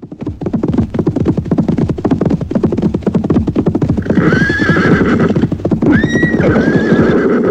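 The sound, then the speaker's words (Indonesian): Rapid, steady clip-clop of hooves runs throughout, loud, and partway through a horse lets out two shrill, wavering whinnies over the galloping rhythm. “Saat berburu, raja sering menunggang kuda putih.”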